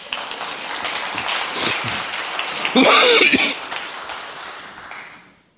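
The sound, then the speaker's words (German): An audience claps to thank the technical crew, a steady, dense patter swelling briefly with a brighter, louder burst partway through before the applause thins and fades away at the end. “Da könnt ihr gerne klatschen.”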